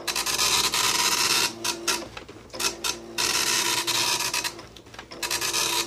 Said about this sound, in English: Oh, that's it's a printer. Can you be more specific? Oh, wow, that is. Oh, wow. It's an older printer. I know that. Yeah. But I can't. Is it a Dot Matrix printer? Did you say Dot Matrix printer? Yeah. Yes, yeah, he did.